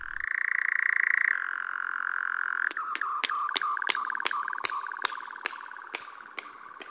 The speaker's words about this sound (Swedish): Det finns också fåglar som gör ljud genom att slå ihop vingarna i flykten, som om de applåderar, sig själva kanske, eller någon annan. Hör här hur nattskärehanen gör som en del i uppvaktningen av sin tilltänkta hona.